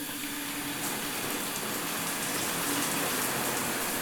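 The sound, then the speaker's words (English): A shower runs steadily in a hotel bathroom, a dense, hissing spray of water pattering against a surface, continuous and even for the full length with no voices. “Here's the shower.”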